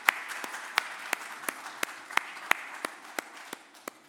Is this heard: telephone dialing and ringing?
no